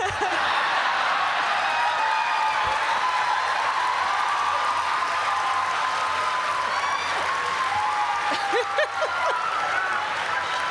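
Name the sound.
audience clapping along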